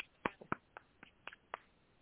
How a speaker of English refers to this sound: Let's give Sheila a round of applause for her participation.